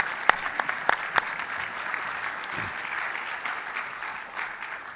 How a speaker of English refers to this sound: come join us and let's give him a round of applause. Welcome.